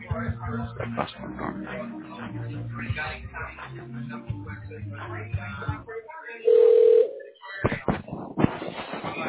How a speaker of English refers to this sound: That line's ringing. Okay. It looks like someone's... Oh, wait, no, I don't know if somebody's picked up or it's still ringing.